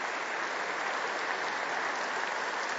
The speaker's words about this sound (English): So I really do want to thank them, and I think they all deserve a round of applause for doing such a great job. I really do.